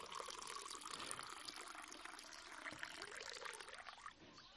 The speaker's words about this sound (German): Das Öl, das sie in dem Krug hat, soll sie hergeben. Und sie gießt es aus in dieses Gefäß. Das mache ich jetzt mal. Achtung. Ist jetzt kein Öl, aber es soll so aussehen wie Öl.